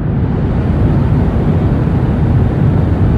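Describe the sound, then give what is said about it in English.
A steady, loud low-pitched roar of a jet's engines at about 80 decibels, heard from inside an airplane cabin, fills the space continuously with no voices and no change in level. “Turns out that the 80 or so decibels of white noise that are pounding your ears from the jet's engines, they reduce your ability to taste salt, reduce your ability to taste sweet, and increase your ability to detect and enjoy umami.”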